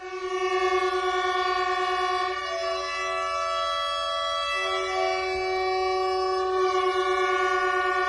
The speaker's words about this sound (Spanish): Todas las bocinas sonando al unísono en la estación de Chamartín por Pablo.